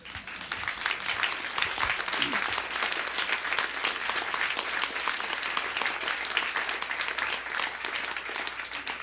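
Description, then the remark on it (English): Steady, sustained applause from a sizable audience after a poem is recited, a dense even wash of clapping that holds at a fairly loud level for the full nine seconds with no voices standing out. “You may clap.”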